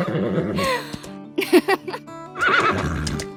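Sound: horse neighing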